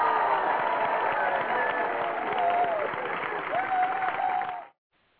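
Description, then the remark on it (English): A crowd cheering and applause sound effect, played to cheer Mother Teresa: a large crowd cheers and applauds loudly and steadily, with dense clapping and scattered shouts and whoops for nearly five seconds, then cuts off abruptly into silence. “Okay, let me cheer Mother Teresa. There we go.”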